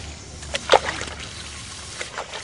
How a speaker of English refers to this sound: The grooms give the horses a shower bath with a hose.